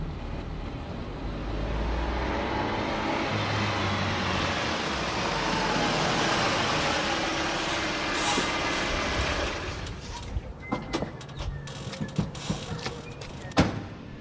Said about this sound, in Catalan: A mesura que avançàvem, el renou del motor es va començar a mesclar amb un xiulet constant i agressiu. Era el vent, bufant amb força. Érem a prop de la costa.